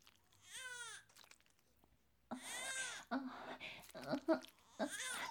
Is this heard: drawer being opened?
no